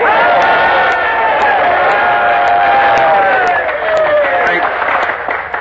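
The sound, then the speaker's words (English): A crowd in the colony on Devil's Island cheers and shouts loudly and continuously as a man arrives back with an important announcement. Voices overlap in a steady roar with some applause mixed in, sustained at full volume throughout. “You are waiting to cheer a man who has come back to this colony with an important announcement for all of us. Well, cheer him in.”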